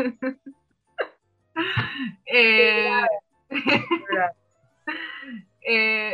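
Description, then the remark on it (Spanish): A person sobs and wails, with bursts of high, strained crying broken by short catching gasps and hiccupping breaths, in a halting, uneven rhythm. “Qué emoción ahí, rompió en llanto.”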